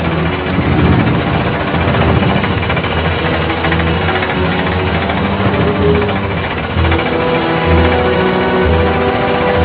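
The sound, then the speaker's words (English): A heavy drilling engine runs continuously, loud and steady, with a deep mechanical hum and rapid pounding vibration throughout, no voices. “Don't shut down! Why not? Something's pulling the drill down!”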